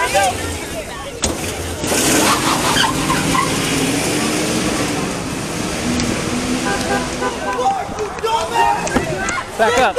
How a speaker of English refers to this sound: You'll see the mob swarm a truck. The truck drives away and in the chaos ends up crashing.